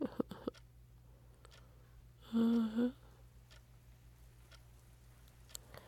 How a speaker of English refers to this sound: Do you hear that? It's raining.